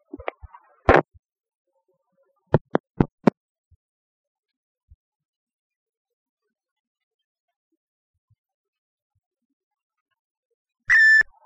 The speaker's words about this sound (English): I've waited for the beep. I am going to start speaking now. I am speaking now. Can you hear me?